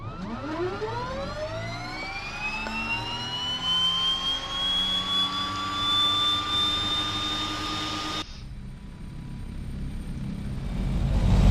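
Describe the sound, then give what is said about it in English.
Aircraft jet engines are started with a Control-E command, spooling up with a rising whine that climbs steadily in pitch and settles into a loud, sustained roar, then cuts to a steadier rumbling hum near the end. “I'm hitting control E, starting these engines up.”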